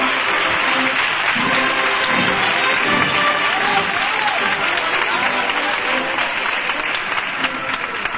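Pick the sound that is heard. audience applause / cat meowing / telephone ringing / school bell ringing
audience applause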